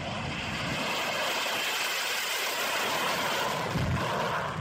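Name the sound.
air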